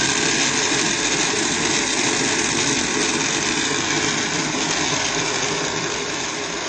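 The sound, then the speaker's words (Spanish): An electric grinder runs steadily and loudly for the whole stretch, grinding mazamorra with a little added water: a constant motor whir with a gritty grinding texture and no pauses or talking. “Y ahora, a moler.”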